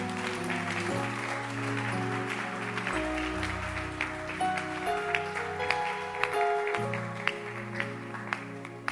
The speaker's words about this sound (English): Clap your hands for her.